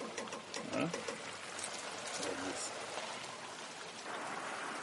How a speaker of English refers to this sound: So I fill the watering can. And then after filling it, I simply pour it on the gardens like this.